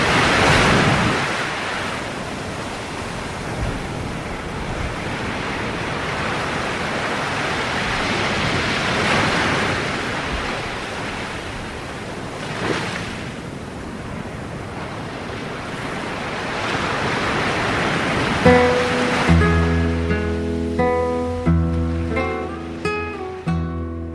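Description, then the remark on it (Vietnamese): Sea waves wash steadily against the shore on a calm night in a soft, continuous murmur with gentle swells, and near the end a melodic music passage fades in over the surf. “Đêm nay trời lặng, sóng biển rì rầm như kể những chuyện không bao giờ hết.”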